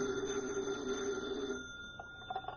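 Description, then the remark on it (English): Special Agent Jim Taylor's desk telephone at the FBI field office rings in a single sustained burst of bright, trilling bell tone, loud, then cuts off, leaving faint room noise and a few soft clicks. “Special Agent Jim Taylor is at his desk when his phone rings.”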